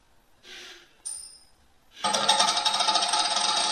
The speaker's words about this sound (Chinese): 现在我就来为大家具体的演示一下。叮咚叮咚。我要抛硬币。